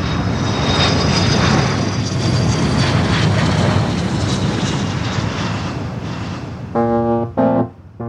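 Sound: airplane engine in flight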